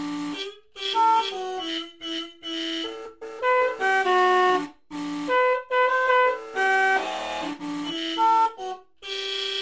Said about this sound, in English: That's We Wish You a Merry Christmas from the incomparable horn-honking